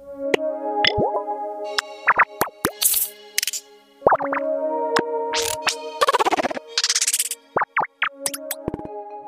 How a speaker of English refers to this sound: Kawaii UI by Rogue Waves is a delightful collection of charming, rounded user interface sounds designed to be cute.